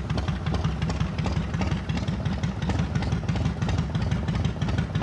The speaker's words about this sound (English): Outside, Kim pulls up to Delnor Glen riding a motorcycle.